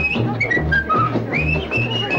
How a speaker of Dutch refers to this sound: Als hij jodelt, ja, dan fluit hij niet. Blurtie, volie, leutie, als hij fluit, klinkt er een vrolijk lied.